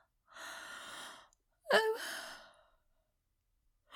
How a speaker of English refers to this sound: I'm not even tired. That yawn was in your head. That yawn was in my head. And that's why I know it was the yawn, because it was in my head.